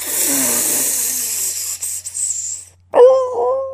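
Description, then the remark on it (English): A long breathy hiss fades out, then a dog lets out a sudden, loud, wavering whine that lasts under a second. “Hand me that dog!”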